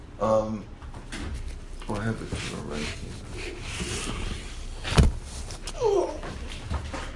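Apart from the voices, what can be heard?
door being closed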